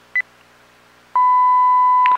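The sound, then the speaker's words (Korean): A brief electronic telephone keypad beep as 1 is pressed for domestic time after calling the 116 time service, then after a pause a steady, loud telephone tone holds for about a second before ending in a short click. No voices. “국내 시각은 1번을.”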